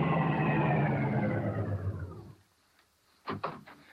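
vehicle, car approaching

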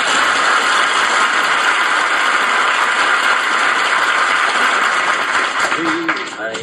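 tool, typewriter typing

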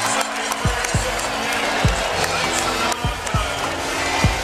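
crowd, basketball crowd cheering

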